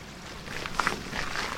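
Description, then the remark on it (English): Water flows steadily into a large tank holding juvenile salmon at Carkeek Park, with a soft, continuous rushing hiss, fairly quiet, broken by a few small splashy clicks partway through. “Water comes down. Get this gate over.”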